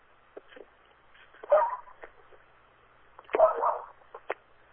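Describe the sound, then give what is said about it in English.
Two muffled barks from a pet dog nearby, spaced a couple of seconds apart, with faint clicks and soft background noise between them. “Well, I do hear a dog barking.”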